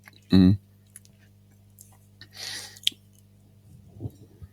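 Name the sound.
drinking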